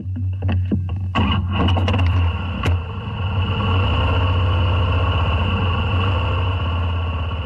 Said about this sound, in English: Steve McCrone loves nothing more than cranking up his Harley-Davidson Softail and hitting the road.